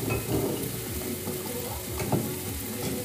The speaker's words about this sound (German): Oh, ich glaube, man hört uns gerade nicht. Ja, ich wollte auch gerade sagen, wir schreien die ganze Zeit. Die Pfanne ist sehr laut.